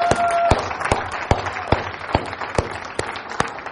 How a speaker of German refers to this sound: Und die beiden sind ja wirklich, Gott segnet euch sehr mit den beiden als Pastorenpaar. Wirklich. Gebt ihnen noch mal einen Beifall.